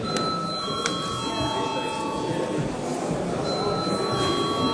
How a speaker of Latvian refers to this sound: Tā cienījamie kolēģi, likumprojektu turpināsim izskatīt pēc pārtraukuma. Lūdzu, zvanu.